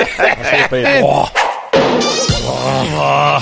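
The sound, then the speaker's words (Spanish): A man lets out a series of loud, throaty grunts and snorts live on air during COPE radio's Tiempo de Juego, imitating a bull or buffalo, in short rough bursts with a brief pause midway. “Ese bufido en directo del gran Pepe Prieto.”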